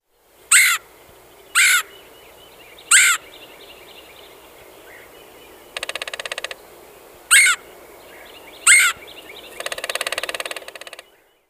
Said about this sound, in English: Red-headed woodpecker.